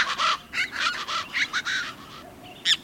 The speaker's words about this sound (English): A plain chachalaca.